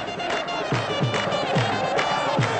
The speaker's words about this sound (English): Welcome to Baghdad! 10,000 people showed up last night to cheer on two old Baghdad rivals, defending champions Al-Shurta against Al-Zawra.